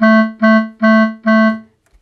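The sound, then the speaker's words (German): Four loud, buzzy honks from clowns' red nose horns during a circus finale, each a steady nasal tone about a third of a second long, sounding in an even rhythm, then a couple of faint taps. “Die Clowns schneiden Grimassen und hupen mit ihren roten Nasen.”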